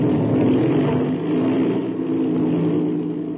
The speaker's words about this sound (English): There. That's the way an airplane motor starts, fast as a flash.